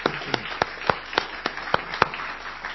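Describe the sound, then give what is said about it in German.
Audience applause for the decorators during a sermon, falling into a steady rhythm: about ten sharp, evenly spaced claps ring out over a continuous rustling wash of crowd noise, with no one speaking. “Ich möchte aber auch, bevor ich weiter predige, unseren Dekorateuren einen ganz fetten Applaus geben.”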